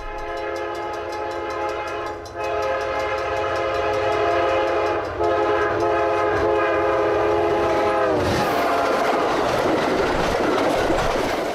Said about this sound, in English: A blast of smoke past the window from the diesel locomotive. Almost like travelling behind a steam engine of yesteryear.